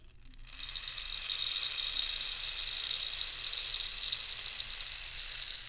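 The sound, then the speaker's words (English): A rain stick, used as an instrument to accompany a children's song about rain, pours out a steady, hissing cascade of tiny pellets, starting after a brief pause and continuing evenly without a break, bright and fairly loud, with no voices. “This is a rain stick, and it makes this sound.”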